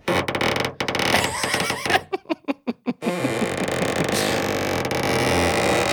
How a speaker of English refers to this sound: And as the mom was rubbing her hand on the coat, it made that sound like you're rubbing your hand across a balloon. Oh. And so I have a balloon. Let me demonstrate.